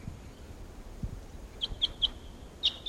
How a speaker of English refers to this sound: Now, at 7:13 a.m. on October 13th, and a flock of about 8 type 6s are here at Barfoot Park calling to the decoys. And these are the wild birds.